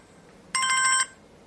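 A telephone rings once in a short, loud electronic burst, a bright warbling tone pulsing rapidly for about half a second, with quiet background on either side and no talking.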